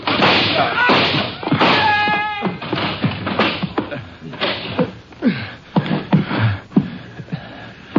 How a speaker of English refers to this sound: Let's kick a hole in this door.